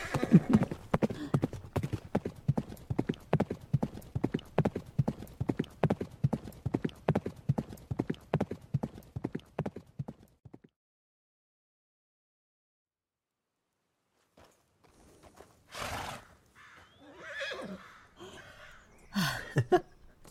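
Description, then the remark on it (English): Steady horse hooves clip-clop in a quick, even rhythm for about ten seconds as a person rides the horse, then stop. After a few seconds of silence, several short breathy bursts follow. “You did not fall off your horse this time, so...”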